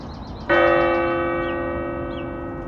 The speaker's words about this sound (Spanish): Ya va del segundo repique de la campana de la iglesia.